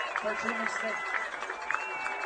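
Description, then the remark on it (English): A large stadium crowd at a football game roars for the Cardinal defense as the Bulldogs face third down and 15, a dense, steady wash of many voices holding a constant loud level with a few sharper shouts poking out above the din. “And the crowd is making noise for their Cardinal defense.”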